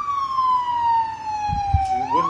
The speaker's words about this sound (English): It would not be Radio Mysterioso without the siren. Yeah, and that's just a police car.